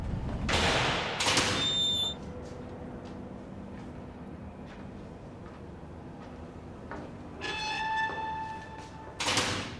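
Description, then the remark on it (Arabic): A door creaks on its hinges and shuts with a couple of dull knocks, followed by another squeaky swing and a final bump, with a quiet hum in between. “قف في الخارج وسأناديك، أغلق الباب.”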